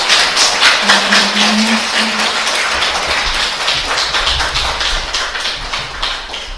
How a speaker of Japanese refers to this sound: マキナさんに感謝の心を込めて拍手を持ってお礼しましょう。